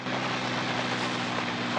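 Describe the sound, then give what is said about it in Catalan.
A helicopter that has landed in a clearing winds down its rotor blades: a loud, continuous whirring drone with a steady low hum beneath a broad rushing noise, unbroken, with no voices. “Les aspes d'una d'elles deixen de girar.”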